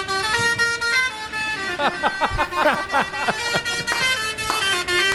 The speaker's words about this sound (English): Hang on. I found a Cambodian truck horn.